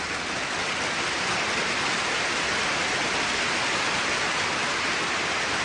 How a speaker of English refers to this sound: I can't hear any applause. You can't. I hear no applause. Are you serious? You can't hear any applause? Hold on. Will you turn up the sound in the... there.